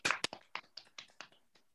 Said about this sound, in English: Another little mini round of applause for our poets.